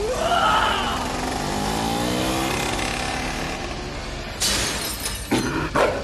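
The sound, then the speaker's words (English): A motorcycle engine revs and roars, its pitch climbing as it speeds up for a stunt jump over 15 buses, then a sudden loud crash with shattering debris and a couple of sharp impacts rattling afterward. No one speaks. “When I make a deposit, I want to jump over 15 buses on a motorcycle into a lion's mouth!”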